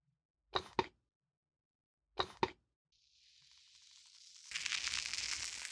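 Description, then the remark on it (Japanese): Two short double pops, then a soft fizzing hiss that builds steadily and turns into a dense, loud crackling for the last second or so, with no talking. “シュワシュワシュワシュワ、パチパチパチパチ。”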